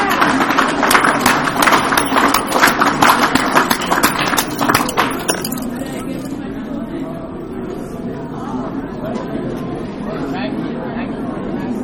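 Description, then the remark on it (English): An audience at a meeting applauds two speakers, a dense burst of many hands clapping for about five seconds before it stops abruptly and gives way to a low murmur of crowd chatter. “Give both of our speakers a big round of applause, please.”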